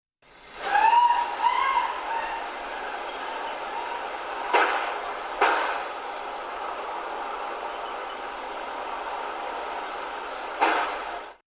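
A brief, high, wavering scream, then two sharp gunshots about a second apart. A long pause of steady hiss follows before a single third gunshot.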